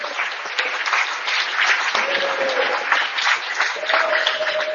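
Sustained, loud applause from a large audience after a talk, a dense rush of many hands clapping steadily with no pauses, with a faint tonal whistle or hum drifting underneath.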